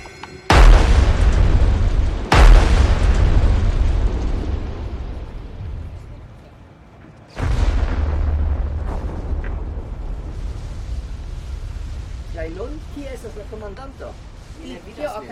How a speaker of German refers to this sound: Laut? Ja, selbstverständlich sind diese mächtigen Kanonen laut. Das sollen sie ja auch.